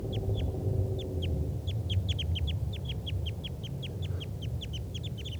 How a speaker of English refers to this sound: And there's two wild type 2 crossbills here in the trees near the net. This is them calling. Actually, there are 3 birds.